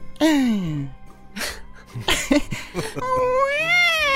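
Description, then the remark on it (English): A woman's high, wavering cry, loud, breaking into several sobbing bursts before one long rising and falling wail, with a mewling, cat-like quality, as she stands crying at a front door. “I opened the door and saw a beautiful woman crying.”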